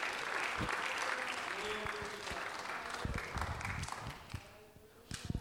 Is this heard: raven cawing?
no